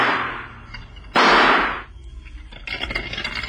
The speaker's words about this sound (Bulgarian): Рейтор, нанесете обичайният изстрел на милосърдието.